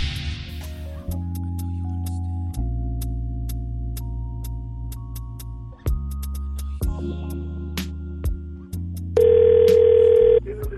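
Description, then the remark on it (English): A sustained, droning electronic tone shifts pitch in steps under steady ticking, then a loud telephone ring tone sounds for about a second near the end, as a prank phone call is placed on the Steve Harvey Morning Show. “All right, when we come back after the break, at 48 after the hour, we got the prank phone call.”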